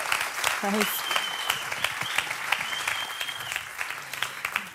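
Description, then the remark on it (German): Steady applause from an audience at a church event, welcoming a speaker onto the stage, a dense patter of many clapping hands at even loudness throughout, with a few brief voice sounds and a faint whistle-like tone mixed in. “Herzlichen Applaus”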